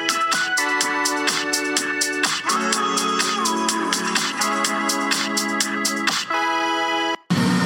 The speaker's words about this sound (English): Oh, and we're doing another bar review. That's right. Yeah, that's why it's so loud.